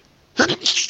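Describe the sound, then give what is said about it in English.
A single loud sneeze bursts out after a brief quiet moment, with a sharp intake followed by a breathy, explosive release that trails off. “Oh, man. I think I got to sneeze.”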